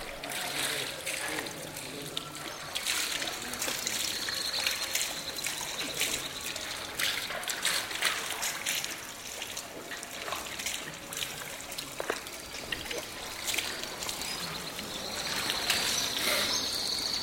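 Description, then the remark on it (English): Water trickles and splashes steadily from a fountain in the courtyard of a Quranic school in the Medina, where men wash their feet, hands and face before prayer; a continuous bright hiss broken by irregular small splatters that stay at an even level throughout. “Men who live and work in this part of the Medina come here to pray, but before they do, they remove their shoes and wash their feet, hands, and face at the fountain in the school's courtyard.”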